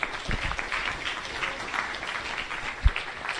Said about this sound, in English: Round of applause for our new members.